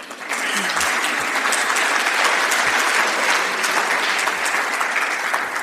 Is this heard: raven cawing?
no